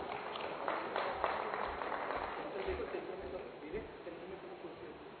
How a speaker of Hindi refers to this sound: तो स्वागत करते हैं जोरदार तालियों के साथ सभी कलाकारों का।